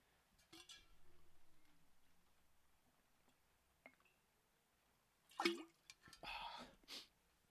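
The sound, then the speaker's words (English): Someone takes a big sip of water: a quiet lead-in with faint clinks, then a sharp wet gulp followed by a couple of breathy exhales. “Big sip of water, I should say.”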